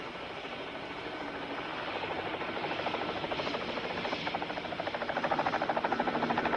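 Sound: helicopter approaching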